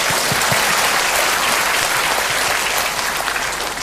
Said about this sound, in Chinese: 行啊，给你掌声这位朋友。